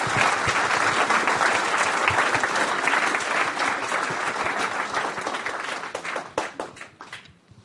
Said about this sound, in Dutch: Nou mogen we even klappen voor al die 6 mensen.